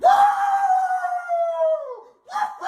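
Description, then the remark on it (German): A long, sustained howl held for nearly two seconds, loud, sliding slightly downward before breaking off, followed by a brief rougher yelp: a man's voice imitating an imaginary dog howling and barking. “Und der stört sich offenbar tierisch am Lärm der Nachbarn und fängt dann immer gleich an zu bellen.”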